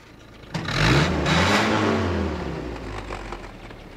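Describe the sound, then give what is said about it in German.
A tow truck's heavy engine rumbles as it approaches, swelling from around half a second into a loud, steady low drone with rising and falling harmonics, then easing slightly as it idles. No one speaks. “und während sie noch so dastanden, kam wieder ein Motorengeräusch näher. Es war der Abschleppdienst.”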